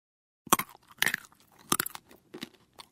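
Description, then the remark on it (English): Crunchy chewing of trail mix made of nuts, pieces of chocolate and dried fruit: about five crisp, irregular crunches over a few seconds, fairly quiet, with no talking. “It's sweet, salty, chewy, and crunchy.”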